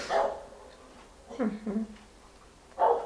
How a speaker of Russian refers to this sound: Вот, видите, собачка пришла поругаться на нас.